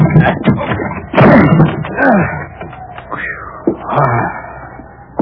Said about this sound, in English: Help me bust this door.